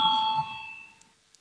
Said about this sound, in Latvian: Lūdzu zvanu, balsosim par 88. deputātes Goldbergas priekšlikumu.